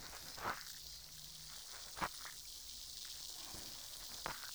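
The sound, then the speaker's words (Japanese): A steady soft fizzing hiss runs throughout, made gently with the tip of a cotton swab, broken by a few sharp crackling pops at irregular moments, with no voices. “シュワシュワパチパチって心地いい音がしてますね。”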